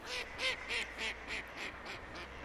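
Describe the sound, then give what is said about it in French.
A duck quacks repeatedly in a steady run of about eight or nine nasal calls on a small river under a bridge in the village of Burlade, over a soft background wash of flowing water. No one speaks. “Sous le pont, une petite rivière qui passe avec des canards.”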